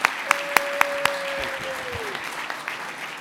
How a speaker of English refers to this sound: How about a big round of applause and a big welcome to the PBA? Welcome to the Florida House.